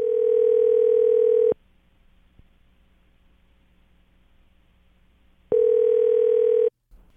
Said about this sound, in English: We got the phone ringing here, so be real quiet, okay?